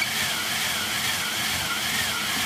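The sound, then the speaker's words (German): A wind machine cranked up to a storm: a loud, steady rushing roar with a bright hissing edge that holds without a break for the whole stretch, no voices over it. “Das ist eine Windmaschine.”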